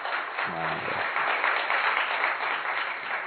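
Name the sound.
audience clapping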